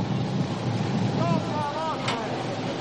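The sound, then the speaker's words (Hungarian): Steady, rushing wind blowing from the direction of a bridge over the Danube fills the whole clip with a low rumble near the water, and brief wavering tones rise faintly through the middle. “Hát a búvár elöltözködik, és a híd felől fúj a szél.”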